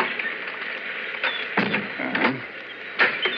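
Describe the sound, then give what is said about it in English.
A key rattles and clicks in a lock through a cluster of short metallic sounds, followed by a door being pushed open, all over a steady background hiss with no voices. “This key is supposed to fit this door.”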